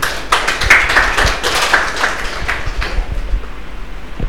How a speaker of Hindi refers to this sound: और हम सब की तरफ से हम सभी एक जोरदार तालियों से भाई का स्वागत करेंगे।